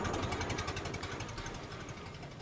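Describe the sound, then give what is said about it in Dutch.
A car engine rumbles with a rapid, steady knocking pulse and a broad gritty hiss, its loudness easing slightly as it pulls away: Cruella gets into her car and drives off to two crooks. No one speaks. “Cruella stapt in haar auto en rijdt naar twee boeven.”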